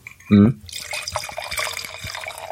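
Wine is poured into a fine white-wine glass: a steady gurgling trickle with small splashes that runs for about two seconds, after a brief voiced hum at the start.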